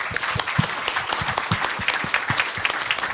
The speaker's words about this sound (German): Also erstmal Applaus.